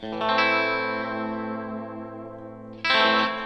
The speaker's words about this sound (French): Je me suis juste mis en position intermédiaire aigu-milieu pour avoir un son hors phase, un petit peu type stratoïde, avec beaucoup de reverb